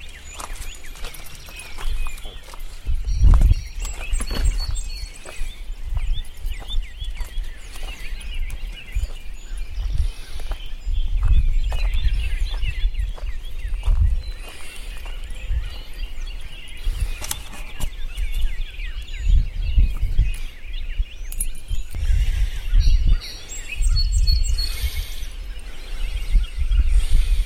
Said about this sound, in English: Now it's early morning at Mom's, and the birds are really going to town.